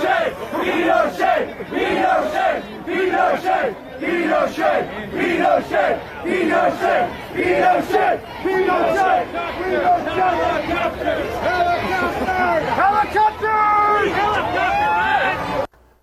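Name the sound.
protest crowd chanting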